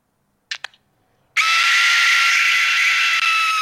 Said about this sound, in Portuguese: Isto é um apito, malta. Isto é um instrumento de sopro.